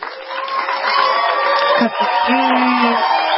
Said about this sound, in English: So the fans all want to yell and scream and holler, so here we go.